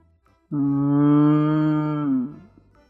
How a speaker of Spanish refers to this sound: Da de comer a Julieta, que muge feliz y contenta.